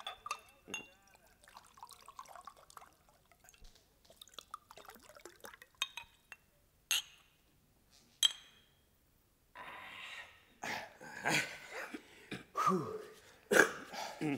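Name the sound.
drinking glasses clinking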